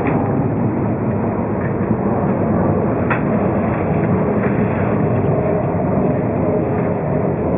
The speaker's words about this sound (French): Est-ce que vous pouvez me faire entendre les bruits d'avion? Oui, à partir du moment où vous ouvrez la fenêtre, et ben vous entendez un peu plus.